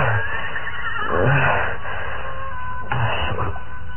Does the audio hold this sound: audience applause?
no